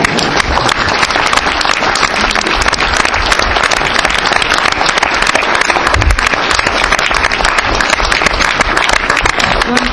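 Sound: audience applauding loudly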